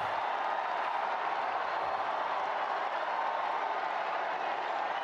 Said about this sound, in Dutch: Jawel, witte rook uit de schouw van de Sixtijnse kapel. We zijn er helemaal live bij, hier in Radio Vaticaan. Heel het Sint-Pietersplein juicht.